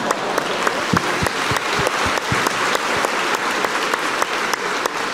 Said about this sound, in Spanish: Un aplauso para ella.